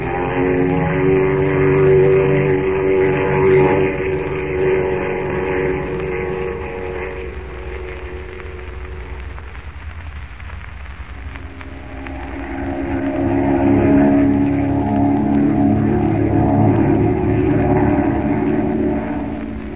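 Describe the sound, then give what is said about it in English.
A steady, loud engine drone with strong low harmonic bands, dipping briefly midway before swelling again, continuous throughout with no voices, like a propeller airplane in flight, heading from Central America back to America. “Well, now that we're safe and comfortable in the plane,”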